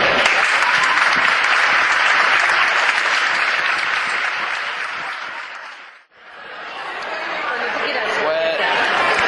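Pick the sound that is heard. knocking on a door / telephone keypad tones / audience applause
audience applause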